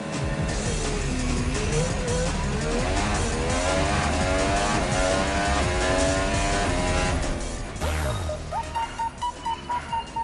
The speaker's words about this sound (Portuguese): Aqueça os motores, porque as luzes já vão se apagar e o carro da Web Rádio Audioativo vai disparar